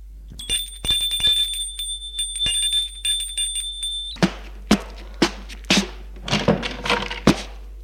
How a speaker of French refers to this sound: Deux jours plus tard, l'on sonne à sa porte.